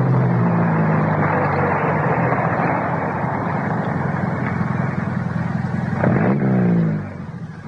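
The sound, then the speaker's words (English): A car engine drones steadily and loudly, then its pitch swoops and winds down near the end as the car slows and stops, leaving a quieter idle. “Hey, stop the car.”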